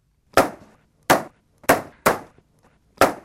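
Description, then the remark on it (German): Five sharp rifle shots crack out at uneven intervals at the Zurich Knabenschiessen shooting competition, fired by the girl who won it, each a loud report with a quick ringing decay, and no voices in between. “Das sind im Fall königliche Schüsse.”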